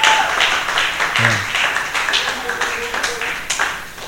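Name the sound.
audience clapping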